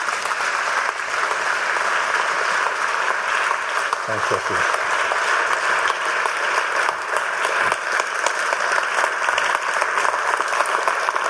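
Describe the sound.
Steady audience applause as a speaker is welcomed to an evening talk, a dense, even crackle of many hands clapping that holds at a constant loud level throughout, with a brief spoken thank-you heard beneath it.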